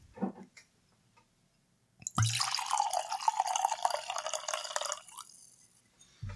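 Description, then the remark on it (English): Hakuto Tokubetsu Junmai sake is poured into a glass in one steady stream lasting about three seconds, preceded by a few faint taps and followed by quiet. “So let's get this in the glass and we can give it a taste and give it a description.”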